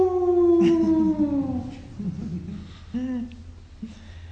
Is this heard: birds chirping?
no